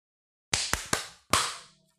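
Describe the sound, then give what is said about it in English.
Four sharp, bright hand claps land in quick succession, slightly out of step with one another rather than as one unified clap, each ringing briefly before fading. No talking. “So yeah, time.is, and then let's clap at 55 seconds.”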